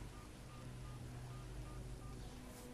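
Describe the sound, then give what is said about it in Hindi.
A quick series of short, soft keypad beeps as a number is dialed on a mobile phone, spaced fairly evenly over a steady background hum with no one talking. “अरे हाँ भूल गया था, अपने मोबाइल से मिलाता हूं।”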